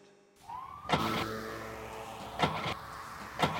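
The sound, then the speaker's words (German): A car's starter whirs steadily, broken by three loud sputtering bursts as the engine, after being switched off, turns over without catching. Fairly loud, with no voices. “Mensch, mach das Auto an. Ich hab dir doch gesagt, du sollst den Motor nicht abstellen.”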